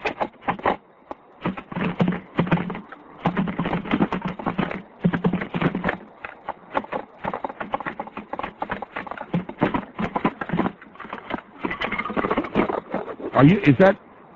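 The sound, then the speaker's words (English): Quick, steady sticking on a practice drum pad, dry taps flowing in a continuous rhythmic pattern with brief pauses between phrases, played fairly loud throughout. “You were playing the drum kit there? I was playing my drum pad.”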